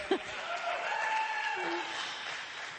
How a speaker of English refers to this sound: He thanked me, and I just want to thank, first and foremost, celebrate and honor this set man of God. I know he doesn't like honor and everything, but give him more clap offering.